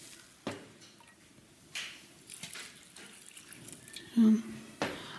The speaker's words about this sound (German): So, jetzt gebe ich das warme Wasser drüber, dass die Hefe ein bisschen sich aufweicht.